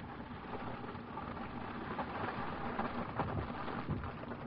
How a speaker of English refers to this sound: Well, that sounds like some paper burning. That'd be Bern, Switzerland.